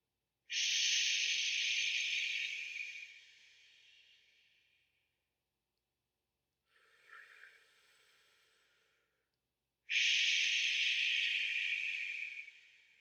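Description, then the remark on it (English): Three long, hissing ocean breaths through the throat during a meditation, loud: a strong breathy rush, a softer, shorter one, then another strong hiss, separated by brief silences, with no talking. “And then move into an ocean breath. We'll do three of each breath this time.”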